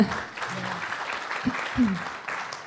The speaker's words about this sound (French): Donc on peut l'applaudir.